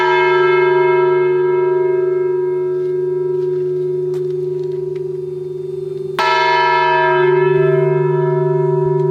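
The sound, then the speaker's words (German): A historic church bell, over 250 years old and weighing almost a ton, is struck before a crane lifts it into the church tower after repair in the Netherlands. It rings out with a deep, sustained tone, its rich overtones humming steadily before a second strike near the end renews the loud, resonant clang. “Nach dem dritten Anschlag zieht der Kran die fast eine Tonne schwere Glocke empor.”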